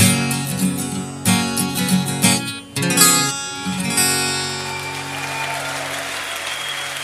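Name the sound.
audience clapping hands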